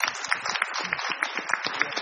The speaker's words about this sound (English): And now if you just turn around, stand up, turn around, face the audience, and let's give her a nice round of applause.